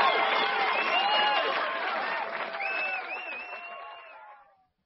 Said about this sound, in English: Let's have a big round of applause for everyone.